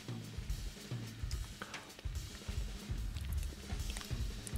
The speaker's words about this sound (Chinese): 大家听唔听到食糖嘅声？我觉得好呕心啊！听人哋嘴入边有啲嘢喺度嚼嚼声咁样，我尽量控制粒糖唔好发出声音先。